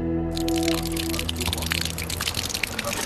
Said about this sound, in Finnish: Räystältä tippuu vettä, kuten äänestä kuuluu aika hyvään tahtiin. Onneksi täällä alkaa päivä pikkuhiljaa kirkastua tällä Eurajoen suunnalla, jossa nyt ollaan viimeisellä kätköllä.